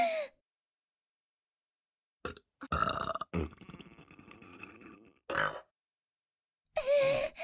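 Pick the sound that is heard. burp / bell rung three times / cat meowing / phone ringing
burp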